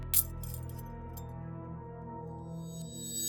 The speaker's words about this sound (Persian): حالا با یه صدای کلیک فلزی دستبند به دستش زده میشه.